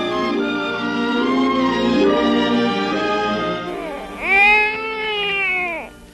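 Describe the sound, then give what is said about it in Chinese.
A baby cries with long, high wavering wails: a sustained drawn-out cry, then a brief pause and a louder cry that rises and falls. No one speaks. “我还没有到家就听见婴儿的哭声，一定会被人听见的。”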